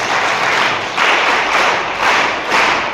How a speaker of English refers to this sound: And I think this is the reason why I am a priest. Clap for me.